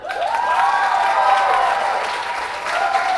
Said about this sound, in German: Dein Applaus, Till. Wunderbar.